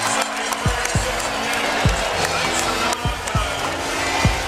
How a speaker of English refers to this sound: Wow. Listen to this crowd.